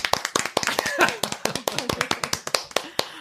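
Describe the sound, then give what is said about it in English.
A quick run of sharp, crisp hand claps, around twenty in a few seconds, loud and fairly steady, with faint voices murmuring underneath. It is "the big clap" given in honour of Stanislav Petrov. “Or no, it should be Stanislav Petrov, you get the big clap.”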